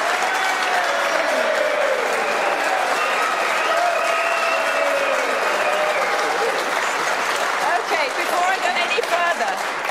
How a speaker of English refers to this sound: The audience, someone who supports that, because that was a massive cheer there. That was a massive cheer, the moderator says.